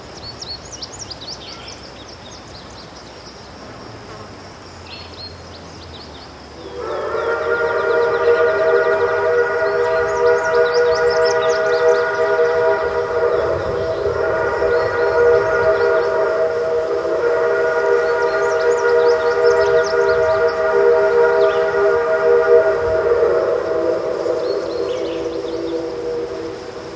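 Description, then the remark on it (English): A single long, loud train whistle, recorded near Cass, West Virginia, starts after a few seconds of quiet outdoor ambience and holds a steady, rich chord for about fifteen seconds before fading away, with birds chirping faintly in the background. “That train whistle was recorded near Cass, West Virginia, by NPR's Bill Deputy.”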